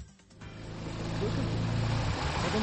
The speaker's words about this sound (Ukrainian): Світанок у селі Пухівка. Ледь чути гуркіт двигуна на воді, хоча він потужний. А ось і човен, яким керують двоє молодиків.